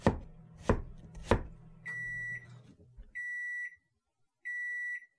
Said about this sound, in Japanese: 特に好きなのは玉ねぎのみじん切り。離れてしまわないギリギリを狙い、そーっと刃を入れる。均等に切れ込みを入れたら、形をうまく保ったまま、一気に切り込む。パラパラと玉ねぎが離れていく手応えがとても心地いい。